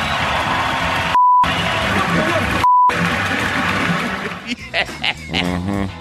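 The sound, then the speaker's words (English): Two short, steady censor bleeps cut into noisy broadcast audio from a live microphone in the losing team's tunnel, with a roaring crowd and talking, each replacing the sound briefly; afterward voices continue over the crowd. “There was no beeps when it aired live.”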